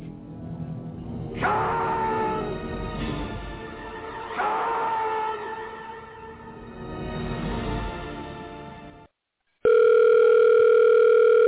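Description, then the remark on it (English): After a loud, dramatic stretch of noise and a brief silence, a telephone at the Q Continuum sounds loudly and steadily for about two seconds, a sustained electronic ring tone, before a voicemail greeting. “Hello, you have reached the Q Continuum. We are unable to get to the phone right now because we are busy living in a plane of existence your feeble mortal minds cannot possibly comprehend.”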